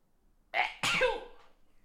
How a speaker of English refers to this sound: Oh, have to sneeze.